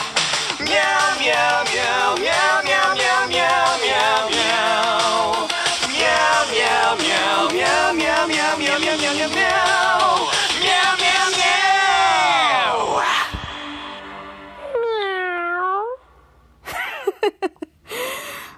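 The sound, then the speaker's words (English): Several voices sing a loud, bouncy song made of rapid repeated meows over full backing, then it cuts off into a few short swooping vocal slides and scattered yelps. “Oh man, I love that song.”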